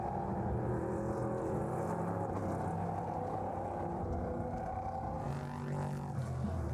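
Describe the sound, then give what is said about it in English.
A heavy flatbed tow truck drives out onto a motor racing circuit while cars circulate behind the safety car, with a steady, loud engine rumble, the drone holding throughout and shifting briefly near the end as it moves past. “And we got a flatbed going out as well.”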